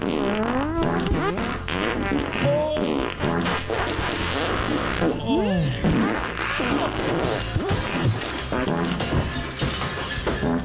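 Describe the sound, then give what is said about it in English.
A loud, nonstop montage of fart sounds, squeaky tones bending up and down and overlapping, jumbled together with crashing, clattering noises for about ten seconds. “And now here's a montage of other fun farts.”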